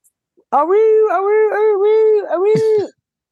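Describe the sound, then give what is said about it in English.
A person imitates their little dog Cone whining, with one drawn-out, wavering whimper that rises and dips for a couple of seconds, fairly loud, ending in a brief breathy catch. “I don't know what the fuck is wrong with him. He whining.”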